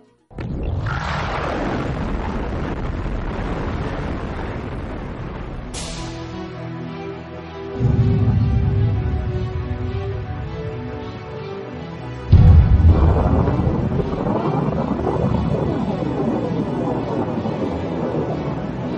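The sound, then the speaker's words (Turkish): The atomic bomb that America dropped on Hiroshima in 1945 explodes in a massive boom, followed by a long, loud, roaring rumble that swells again with further deep blasts partway through, continuing without letup and with no voices. “1945 yılında Amerika'nın Hiroşima'ya attığı atom bombasında patlama anında ve hemen sonrasında yaklaşık 100 bin kişi öldü.”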